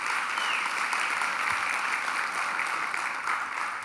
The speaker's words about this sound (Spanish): Si pueden aplaudir a Dios por eso.